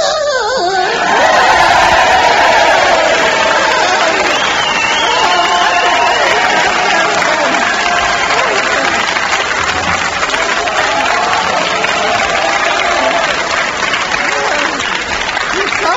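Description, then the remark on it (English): A large crowd at a boxing arena roars and applauds continuously, a dense, loud wall of cheering and clapping that holds steady for the whole stretch, with scattered shouts rising from the mass of voices, as the champion takes off its dressing gown. “the champion, the mysterious PXO21115OBE, is taking off its dressing gown and the crowd can't believe their eyes”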